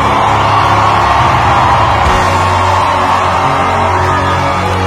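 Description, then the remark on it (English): A large church audience roars with sustained shouting and cheering to celebrate the Lord, loud, filling the space with overlapping voices and a steady low rumble, no single voice standing out. “You're shouting like you don't want to fear God.”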